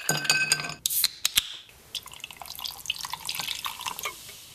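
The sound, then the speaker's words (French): Liquid pours and splashes into glasses for a Christmas toast to Father Christmas, followed by several bright, high-pitched clinks as glasses tap together, then a softer stretch of trickling and faint rattling. “Chin, Père Noël !”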